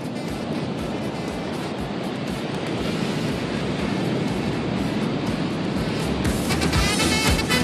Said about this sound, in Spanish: El mar.